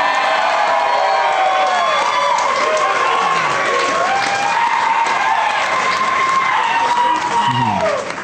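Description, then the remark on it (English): A loud, sustained roar from an audience, with one person screaming "I love weed!" tangled up in laughter, rising above the cheering and whooping crowd for several seconds. “Did somebody just scream, I love weed, but like kind of laugh at the same time?”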